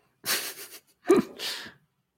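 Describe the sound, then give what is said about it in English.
A dog that has just walked into the building pants in three breathy, raspy huffs in quick succession, with no talking over them. “Everyone, my dog's just walked into the building, so if you hear panting, that's what's going on.”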